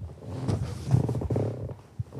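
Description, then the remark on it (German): A rocking chair creaks with a low, drawn-out groan, its grainy, stuttering rasp rising and falling over a couple of seconds, ending with a short sharp knock. “Hast du gehört, mein Stuhl macht Sound.”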